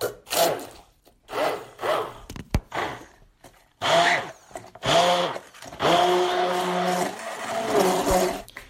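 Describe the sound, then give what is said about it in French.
A blender motor grinds in several short, loud bursts, then runs longer and strains, its pitch wavering as it churns through a thick mixture of hazelnuts, lemon, ginger and pepper. No one speaks. “J'ai cassé mon mixeur, je crois.”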